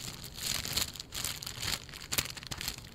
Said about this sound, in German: Ich mag auch ganz ehrlich auch die Konsistenz vom Zellophan lieber und auch das Geräusch.